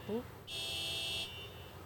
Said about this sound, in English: And that is somebody's car alarm going off. Classic. That's just going to keep going, too, yeah, isn't probably. It? I hope that's not mine. I think they'll figure it out. No, nope, it's not yours.